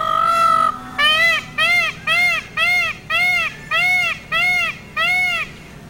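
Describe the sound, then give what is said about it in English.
A peacock's loud, nasal scream, first a long drawn-out cry, then a rapid run of about eight short harsh calls in steady rhythm, with no talking. “Yeah, but I was trying to find a sound of a peacock so people could hear that.”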